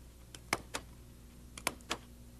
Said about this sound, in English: This little thing down here squeezes into that hole there. And if there's a paper between it, it punches it. Like this. See? That paper? It's on there. I'll put two more.